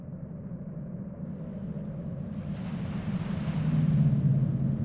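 White, foamy ocean waves wash steadily onto the gray, sandy shore of West Beach in Nome, Alaska, a constant low rumble with a hissing surge of surf that swells louder partway through. Wind noise adds to the roar, and no one speaks.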